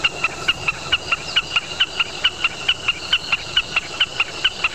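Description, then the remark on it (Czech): A common snipe calls in a steady, rapid series of sharp, high chipping notes, about four per second, repeating evenly over a constant hiss of background noise. “Máte taky bekasinu otavní ve vašem parku?”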